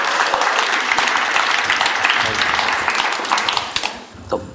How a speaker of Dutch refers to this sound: Zou je hem een applaus willen geven?